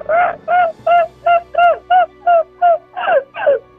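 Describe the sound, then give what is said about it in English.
A caller from Thunder Bay, Ontario imitates a seagull with about ten short, nasal, mid-pitched calls in a steady, even rhythm, each loud and clipped, the last couple slightly longer and wavering. “I'm going to try and do a seagull call, but I don't think I'm very good.”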